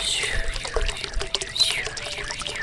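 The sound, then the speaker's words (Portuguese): Water runs steadily in a shallow stream, a continuous bright babble with shifting gurgles and splashes, fairly loud, with no voices over it. “E assim o galo, a raposa e a abelha prosseguiram viagem até chegarem a um riacho.”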